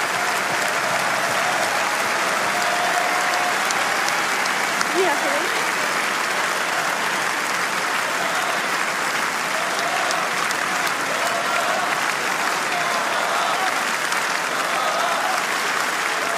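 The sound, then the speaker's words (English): A large tennis crowd applauds steadily for the whole stretch as French player Varvara Gracheva is seen off, a dense, even wash of clapping that never fades, with faint cheers and voices mixed into it. “Mesdames et messieurs, on va profiter d'applaudir et raccompagner la Française Varvara Gracheva.”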